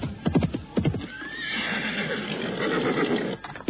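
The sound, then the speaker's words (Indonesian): A horse tethered under a tree whinnies loudly, its neigh rising and falling for a couple of seconds, with hooves clopping and shuffling on the ground before and after. “Kemudian salah seorang di antaranya menghampiri seekor kuda yang tertambat di bawah pohon.”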